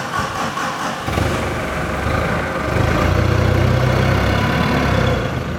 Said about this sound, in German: fährt gerade mit dem Gabelstapler zu einem großen Kartoffelhaufen in der Lagerhalle.